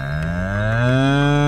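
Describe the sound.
A person lets out one long, loud, drawn-out moo, imitating a cow while doing the cow yoga pose on all fours, with a steady voice that rises slightly in pitch toward the end.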